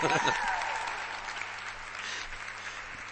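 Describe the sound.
An audience applauds steadily, a dense wash of clapping that stays fairly even throughout, with a brief voice at the very start.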